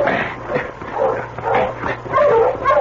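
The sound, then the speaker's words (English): A dog barks and yips repeatedly in short, excited bursts, loud, with a few whimpering tones mixed in and no talking. “Mike, stop that dog there.”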